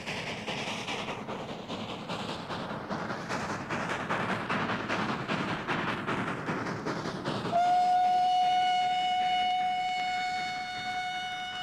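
A train departs and rumbles along the rails with a steady rhythmic clatter, loud, then a long, sustained whistle blast rings out over the rolling noise.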